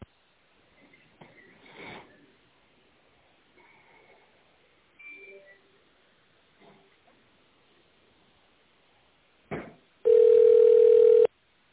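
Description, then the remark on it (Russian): Telephone line with faint clicks and short blips, then a loud, steady ringback tone sounding once for about a second at the end, while waiting for the secretary of a self-regulatory organization to answer. “Наберите добавочный номер или дождитесь ответа секретаря.”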